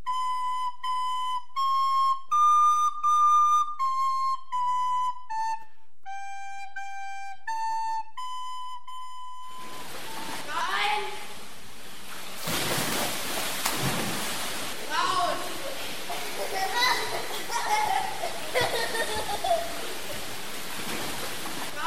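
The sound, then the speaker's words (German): A short series of whistled tones opens, then loud, churning, echoing splashes and rushing water as swimmers repeatedly jump into a pool and climb back out during a training exercise, with bursts of splashing and muffled voices in the background. “Wir müssen da immer ins Wasser springen und wieder rausklettern.”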